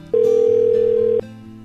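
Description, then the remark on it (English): A single ringback tone on a phone line during a call to a number that is not in service: one steady electronic beep lasting about a second, loud, with faint line noise around it and no voices. “Now it's ringing.”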